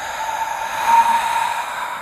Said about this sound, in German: Und zwar laut und hörbar. Dann atmen wir ganz normal weiter. Wenn wir ausatmen, atmen wir laut und hörbar, sodass wenn nebenan im Zimmer jemand ist, dass er uns hört.